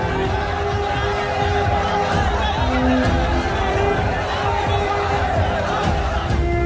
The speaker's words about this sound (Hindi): कई सौ लोगों की भीड़ धीरे धीरे इनकी ओर आ रही है।